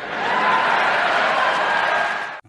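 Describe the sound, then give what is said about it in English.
A steady wash of audience applause, many hands clapping at once in a dense, even roar that holds for a couple of seconds before cutting off abruptly. “But yes, thank you, Joe, for leading the applause.”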